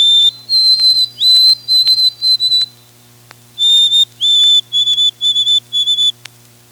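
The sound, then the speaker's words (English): A white-throated sparrow sings in the North Woods: two clear, whistled phrases, each opening with long pure high notes and breaking into a quick series of repeated notes, with no voices present. “And the favorite song of many Northlanders, the white-throated sparrows, is ringing throughout the North Woods again.”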